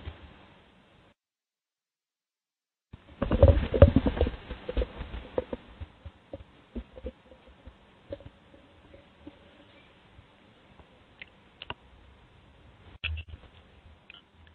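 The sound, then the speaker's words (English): Clicky computer keyboard typing: a quick, dense flurry of keystrokes early on, then slower, scattered clicks and taps with pauses between them. No voices. “What kind of keyboard is that? It's very clicky, or somewhat clicky.”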